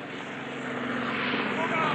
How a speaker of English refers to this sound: Helicopter is going over again.